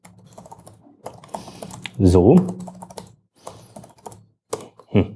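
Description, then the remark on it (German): Rapid clicking of a computer keyboard as a password for decrypting or signing e-mails is typed, keys tapped in quick irregular bursts, with a voice briefly speaking a single short word midway through. “Naja, ich schreibe hier einfach mal was hin.”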